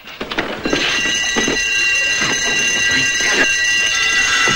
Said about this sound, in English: One of them rolls onto an alarm that activates.